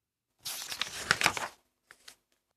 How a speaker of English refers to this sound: Fill up the paper bag with the scrap paper.